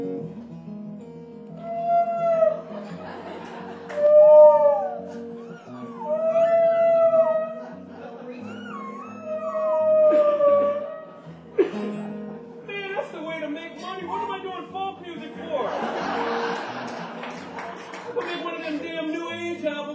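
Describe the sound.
A voice imitates whale song with long, swooping moans that rise and fall, drenched in echoing reverb, repeating several times before blending into a denser, noisier wash of sound.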